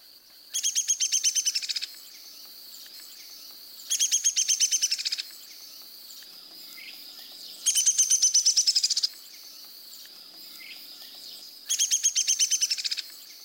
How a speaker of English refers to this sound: Listen first to downy and hairy woodpeckers. The downy woodpecker has a descending whinny.